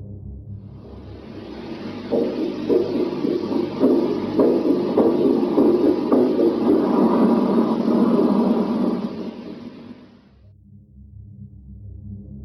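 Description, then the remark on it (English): A muffled, irregular heartbeat-like throbbing from an audio clip recorded on a flight, interpreted as a failing heartbeat, pulses through heavy static and rumble. It swells louder through the middle before dropping away to a faint hiss near the end. “Supporting that claim was another audio clip from the same flight, which was interpreted as a failing heartbeat.”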